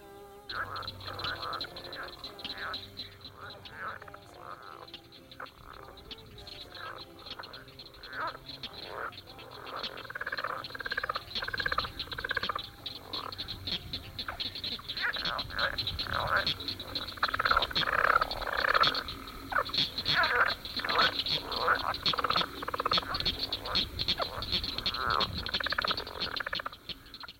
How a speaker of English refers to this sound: A somewhat smaller frog with paired vocal sacs that appears balloon-like protuberances on each side of the throat is a leopard frog, Ranipipiens. This is its mating call.